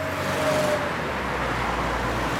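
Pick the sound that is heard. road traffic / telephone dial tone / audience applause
road traffic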